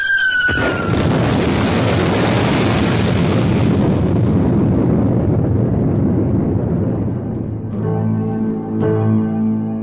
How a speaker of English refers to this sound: It's been 5 minutes since the explosion. The island has disappeared, with the exception of one small pinnacle of rock.